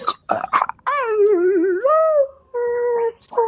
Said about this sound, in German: Der Wolf schnappt noch einmal um sich und verendet.